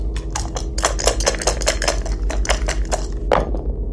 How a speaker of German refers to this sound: Bin ich jetzt dran? Hier sind die Würfel.